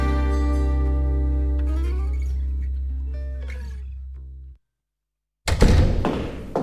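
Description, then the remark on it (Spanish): A door swings shut with a long, low groaning creak and a few clunks of the lock turning, then a moment of silence before a loud burst of rough, hissing noise. “¿ha cerrado bien la puerta? Dale toda su vuelta, hombre.”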